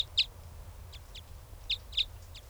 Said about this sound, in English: Still 395 calling. Stop. They're calling. This is one of the birds.